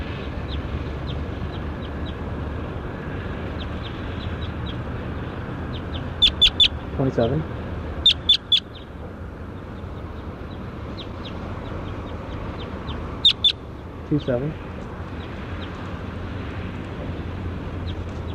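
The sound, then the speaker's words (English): Short, sharp calls of a bird identified as bird 27, being recorded, ring out in a few quick bursts of two to four notes, separated by pauses, above a steady low rumble of background noise. “Start recording bird 27.”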